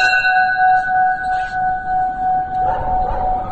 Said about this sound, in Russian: Или высокий колокол. Это тот колокол, который имеет не каноническую форму. Он вытянут вверх.